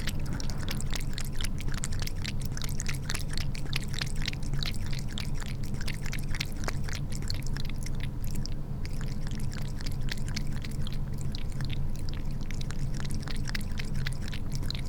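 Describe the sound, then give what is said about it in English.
A cat laps water from its kitty cup placed on the floor, a quick, steady run of small wet clicks and slurps repeating throughout over a low background hum, with no voices. “This is the sound of my cat Pippa drinking water out of her kitty cup”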